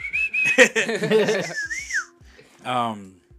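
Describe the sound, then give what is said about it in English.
A loud, screechy human whistle imitating the whistle of a lechuza rings out in shrill sustained bursts with a rising-and-falling glide, mixed with some voiced sounds, followed by a short harsher burst near the end. “Like, will this pick up a whistle? That depends how hard you whistle.”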